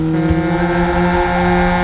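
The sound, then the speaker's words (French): A motorcycle engine runs loud as its rider leaves, with a steady, even drone and strong harmonic hum, its pitch holding level throughout with no voices over it. “Ah, je me casse, les gars, sur ma moto.”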